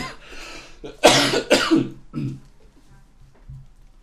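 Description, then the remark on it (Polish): Several harsh coughs in quick succession, a couple of strong bursts followed by softer throat-clearing hacks trailing off into quiet. “Poproszę wody trochę, bo coś kaszel mnie bierze.”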